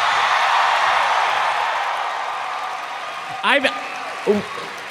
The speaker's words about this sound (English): Travis did just shush Griffin's applause.